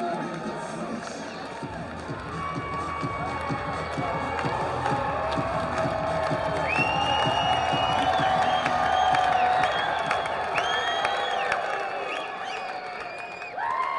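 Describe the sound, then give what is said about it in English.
A baseball stadium crowd of about 4,650 fans cheers in a steady, dense roar for the whole stretch in the bottom of the eighth inning, with the bases loaded and one out. The roar swells slightly midway, with high whistles and scattered shouts rising above the din. “This crowd of 4,650 fans is re-energized in this eighth inning.”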